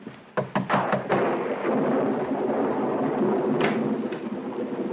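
A few sharp cracks open into a loud, sustained rolling rumble of thunder during a storm, heavy and filling the rest of the stretch, with no voices.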